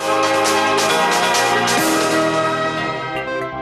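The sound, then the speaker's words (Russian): Old church bells of a monastery in the town of Maaloula, Syria, peal loudly and continuously, several strikes overlapping into a dense, ringing wash of tones that sustains throughout, with no voices present. “Далее о возвращении старинных колоколов в монастырь городка Маалюля в Сирии”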